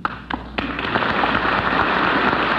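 A few scattered claps break out and quickly swell into dense, steady applause from a large crowd in the US House of Representatives as President Truman arrives, a loud continuous crackle of many hands with no voices over it.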